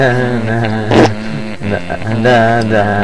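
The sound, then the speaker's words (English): A long, loud fart blasts straight into the microphone, a buzzy, sputtering tone that wobbles in pitch and breaks up briefly a few times over about three seconds. “I'm just going to fart as loud as I can now.”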